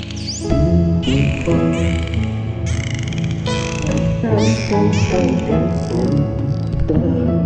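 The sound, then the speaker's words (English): A human voice imitates a dolphin singing through its blowhole, with continuous squeaky, warbling tones sliding up and down in a loud, unbroken stream of cries and chirps. “the enormous baby's dolphin face began to soften, and through his blowhole, Glenjamin began to sing”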